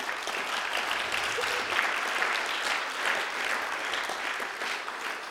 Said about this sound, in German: Hey, gebt doch dem mal Applaus, auch wenn er nicht da ist.